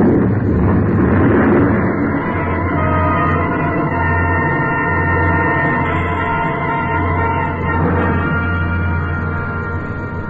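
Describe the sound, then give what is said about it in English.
An avalanche of snow and ice, loosened by shots from the ridge above, sweeps down toward the valley in a loud, continuous roar, with dense low thunder and a rough grinding texture holding steady throughout, with no voices. “It must have been the shots that loosened the snow and ice on the ridge above.”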